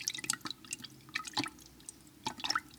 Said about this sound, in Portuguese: De repente, viu ali perto um monte de bolas de gude. Apanhou com o bico uma das bolas e a jogou dentro do jarro. Depois outra, e mais outra.